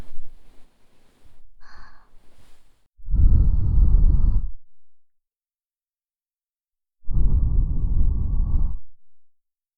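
Two long breaths are blown right into the right ear, each a breathy whoosh of about a second and a half separated by a pause, after a few quieter breathy sounds at the start.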